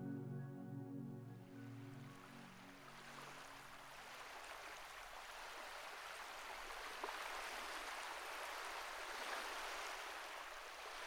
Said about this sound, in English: The ocean is calm, yet playful. Its undulating waves slap enthusiastically against the side of the shimmering white boat, transporting you to your destination. Ruffles of foam trail behind as the modest vessel caresses the water's surface.